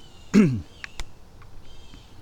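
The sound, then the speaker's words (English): A bird lets out one loud, harsh alarm call that slides downward in pitch, followed by a couple of faint, sharp chips against quiet outdoor background noise. “I can hear a stressed out bird.”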